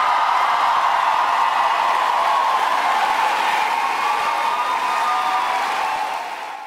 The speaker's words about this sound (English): Crowd really getting into it last night in La Crosse, Wisconsin, as Vice President Harris was there